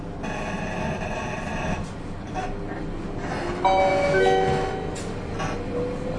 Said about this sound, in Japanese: この電車は月の木行きワンマンカーです。整理券をお取りください。